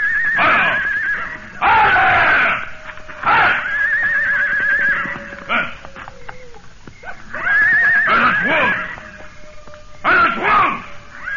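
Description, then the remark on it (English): A horse shrieks and whinnies over and over in loud, frantic bursts with short gaps between, with faint background movement and no speech. “The screams of the horse made my blood run cold.”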